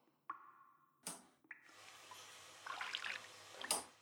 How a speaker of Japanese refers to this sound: 手のひらでシャンプーをよく泡立てて、原液のままだと頭皮への刺激が強すぎると言いますから。ほら、ふわふわになってきましたわ。